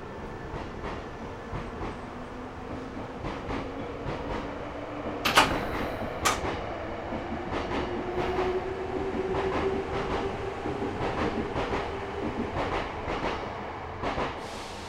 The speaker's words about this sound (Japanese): 皆様、本日も南海電鉄のご利用くださいましてありがとうございます。この電車は準急行南部行きです。